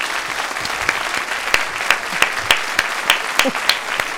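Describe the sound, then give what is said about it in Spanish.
A studio audience claps steadily for a psychologist guest being introduced, a dense wash of many hands with sharper individual claps popping out clearly, sustained for several seconds without any talking. “Y un aplauso para ella, por favor.”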